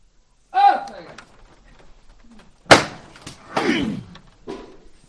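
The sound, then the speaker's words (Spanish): A capataz's single sharp, loud knocker strike rings out midway, signalling the lift of the float of the Nazarene of the Hermandad de los Gitanos in front of a convent door on Calle Santa Ángela, preceded by a man's shouted call and followed by bursts of crowd noise and voices. “Sí, escuchamos esta llamada delante de la puerta del convento.”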